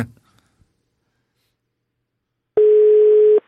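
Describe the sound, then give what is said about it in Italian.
A single steady electronic telephone ringing tone sounds loud and clear for nearly a second after a stretch of near silence, following a faint brief rustle at the start. “Al terzo squillo, il turco risponde.”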